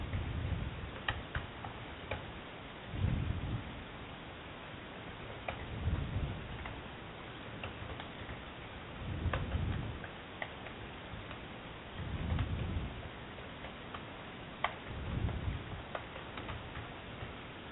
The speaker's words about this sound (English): For those of you who can hear the frantic typing in the background, I am currently contacting Ray Black's PR people to see what the delay is.